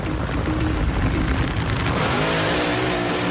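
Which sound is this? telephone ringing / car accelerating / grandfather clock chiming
car accelerating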